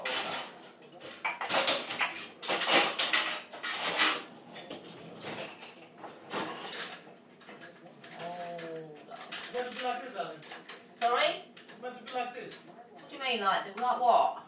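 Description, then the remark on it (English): Dishes and cutlery clatter and clink in quick bursts as they're loaded into a dishwasher, with people talking over the later part of the clatter. “Well, I'm just going to put these things in the dishwasher”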